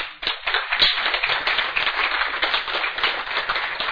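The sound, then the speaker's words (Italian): A church crowd applauds a sister of the audience who won first prize for poetry, many hands clapping in a dense, continuous patter that stays fairly loud for the whole four seconds with no voices over it. “Noi, a proposito di poesie, voi dovete sapere che nostra sorella è stata insignita del primo premio e noi gli vogliamo fare un applauso.”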